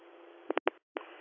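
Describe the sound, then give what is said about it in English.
Several short, sharp alert tones sound in quick succession over hissing, band-limited radio static, followed by a brief silence and one more burst as the static returns. “Disregard those tones.”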